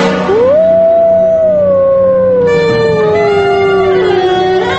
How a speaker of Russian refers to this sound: Волки воют обычно в темное время суток. Хорошо этот вой слышен в тихие, безветренные ночи.